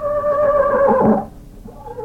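A horse named Tarzan whinnies once, a loud, quavering cry that slides downward in pitch over about a second before trailing off into a quieter, breathy rumble.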